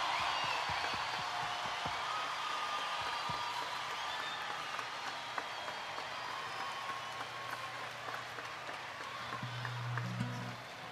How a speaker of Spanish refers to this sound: Por favor, un aplauso gigante como su corazón y como su voz.